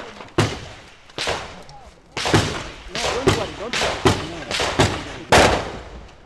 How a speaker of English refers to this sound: Well, that was a lot of gunfire.